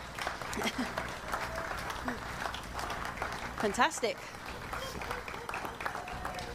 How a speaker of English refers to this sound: Right, now we can clap again because they're coming again now. Woo!